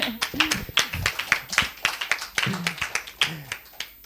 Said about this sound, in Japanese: ハレルヤ。拍手をしましょう。